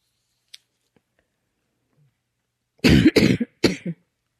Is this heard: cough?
yes